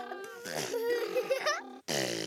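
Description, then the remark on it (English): A voice imitates a car muffler with a loud, buzzing, lip-flapping rumble that wavers in pitch for nearly two seconds, breaks off briefly, then starts again. “What sound does a car muffler make?”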